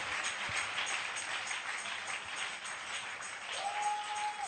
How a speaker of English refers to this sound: Come on, clap your hands for your victory.